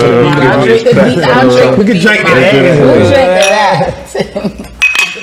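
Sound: glasses clinking together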